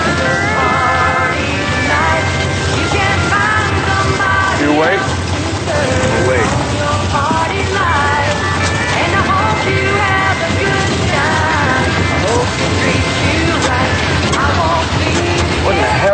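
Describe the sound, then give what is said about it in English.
A truck engine runs steadily and loudly throughout, its constant rumble mixed with rushing wind noise, while indistinct voices sound faintly beneath the roar. “Stop, Mike! Stop the truck!”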